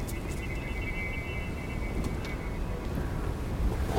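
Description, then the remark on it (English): Steady wind gusting across the microphone outdoors as pigeons carrying whistles are released, a constant low rumbling roar with a faint thin whistle drifting through it for a few seconds, fairly loud and unbroken throughout. “The wind taking the sound with it.”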